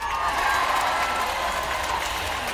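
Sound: audience cheering and applause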